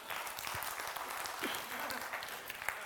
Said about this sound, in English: Come on, y'all clap for me.